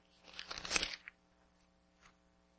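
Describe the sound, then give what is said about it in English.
Paper notes rustle and crinkle for about a second as sheets are shuffled while someone looks for the right page, followed by a couple of faint, brief paper rustles after a pause. “If I can find my right paper here.”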